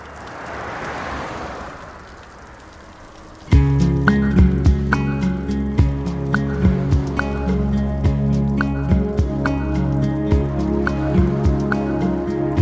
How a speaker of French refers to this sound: En avant-plan, la pluie et le ciel anthracite. Derrière la place Clichy, les Batignolles à droite.